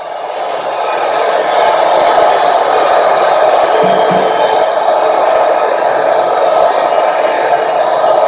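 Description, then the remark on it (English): A large crowd at a live Donald Trump rally in New Mexico cheers wildly, a loud, dense and unbroken roar of many voices that swells within the first second and then holds steady to the end. “Crowd's going wild.”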